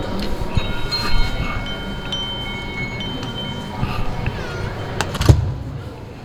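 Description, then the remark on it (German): Steady rumble of a train at a station, with high metallic squealing tones drifting over the low roar and a brief clank near the end; faint indistinct voices blend into the background. “Hallo, darf ich dich kurz fragen, du wartest auf deinen nächsten Zug.”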